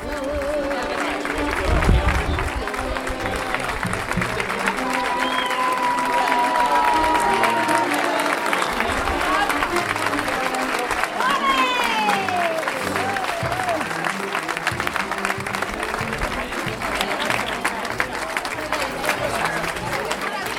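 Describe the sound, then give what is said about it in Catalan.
A large crowd claps steadily and continuously as festival troupes form a corridor to welcome their 2026 office-holders, with occasional whistles and cheers rising above the applause and a murmur of voices mixed throughout. “En primer terme, la fila capitana, fila feixucs i la fila ambaixadora, fila templàries, que van formar un corredor per a donar la benvinguda als seus càrrecs en 2026 entre aplaudiments i expressions de lloança.”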